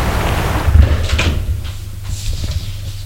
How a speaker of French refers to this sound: Ouvre la porte de son allée. Avant qu'elle se referme, l'homme est entré.